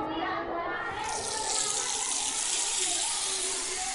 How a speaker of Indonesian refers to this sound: Tapi sebelum makan, kita antri cuci tangan dulu yuk.